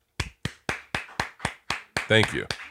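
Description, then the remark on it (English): One person claps steadily at the end of someone's statement, about eight sharp, evenly spaced claps in quick rhythm, with a brief burst of voice cutting in near the end. “I'm just applauding at the end of your statement.”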